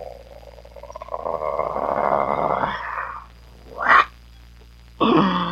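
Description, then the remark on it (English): A voice imitates a growl: a long, rough, rumbling snarl rising and falling over about three seconds, followed by a short sharp burst and another gruff vocal blast. “We give the growl, which goes...”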